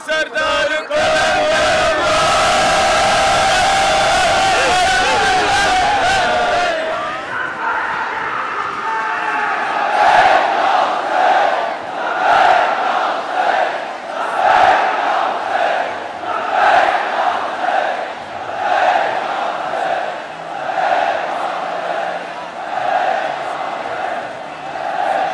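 A large crowd at a conference in Nishtar Park roars loudly at first, then breaks into rhythmic slogan chanting, echoing the name of Lal Shahbaz, voices rising and falling together in steady, repeated pulses about once a second, sustained and forceful throughout.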